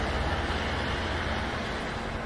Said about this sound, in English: Now, admittedly, the air brakes still make their distinctive squeak. And unfortunately, there are other diesel buses off camera making noise, so you can't really appreciate the quiet operation of this bus.